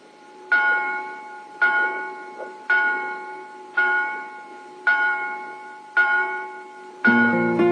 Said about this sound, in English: I've been listening to the bells. They're coming from that small town over there.